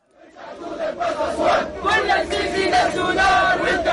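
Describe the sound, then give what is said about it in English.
A crowd of Sudanese protesters outside the Egyptian embassy in Khartoum chants and shouts together in rhythmic bursts, calling for an end to interference by Arab governments, voices rising and falling in a loud, sustained roar with repeated strong accents. “These protesters were outside the Egyptian embassy in Khartoum Thursday, calling for an end to interference by Arab governments.”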